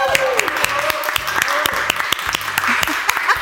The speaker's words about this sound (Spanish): Un aplauso por favor para ellos.